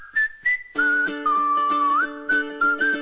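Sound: cheerful whistling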